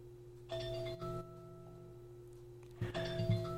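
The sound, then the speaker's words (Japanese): A two-note ding-dong chime sounds twice, with a pause between the pairs. The bright, ringing tones linger and fade slowly over a low steady hum, with no one speaking. “今ピンポンピンポン音が聞こえるでしょうか。”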